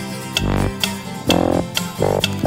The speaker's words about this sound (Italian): Non lo sentite? Che strano, ticchettio.